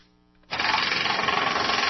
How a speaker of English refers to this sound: They're using jackhammers to clear the debris left behind after twisters tore through the region.